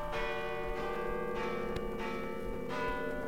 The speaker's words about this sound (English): Listen, the bells. Midnight. It's Christmas.